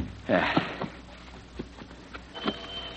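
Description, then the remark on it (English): Several sharp knocks strike a front door at uneven intervals, moderately loud, with a brief muffled vocal sound near the start. “Oh, that's the door.”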